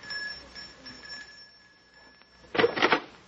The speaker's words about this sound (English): It's this door here. Just ring the bell.